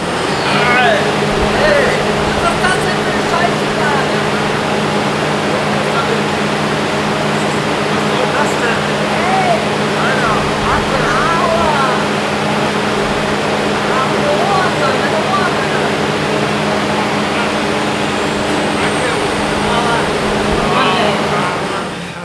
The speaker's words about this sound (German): Dekontamination. Abgeschlossen. Reste von Materialien mit ionisierender Strahlung entfernt. Föhn wird aktiviert.